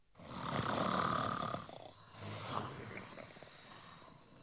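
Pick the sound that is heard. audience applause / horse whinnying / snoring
snoring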